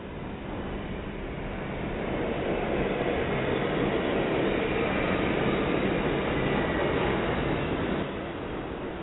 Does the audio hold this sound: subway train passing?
yes